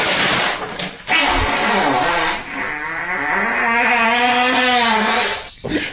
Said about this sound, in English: That's a fart, boys.